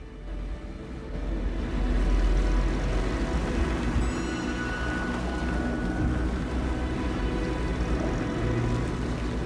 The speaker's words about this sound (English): The next day, two convoys of cars meet at the dusty crossroads.